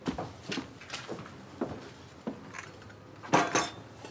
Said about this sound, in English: The bartender puts two espresso cups on a tray. Bringing them to the table, the server puts both cups in front of Alberto.